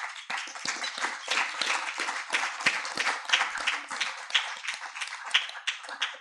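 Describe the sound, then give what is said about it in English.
A crowd at a meeting applauds steadily for several seconds during an IEBS treasury report, for a raffle winner who redonated her winnings, many hands clapping at once in a dense, crackling wash of sound with no voices over it. “And since you did applaud, that is the conclusion of my IEBS Treasury report for the year.”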